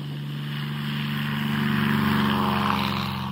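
Steady drone of a small propeller plane in flight from Frankfurt, a deep harmonic engine hum holding constant and swelling slightly louder midway, with no voices present.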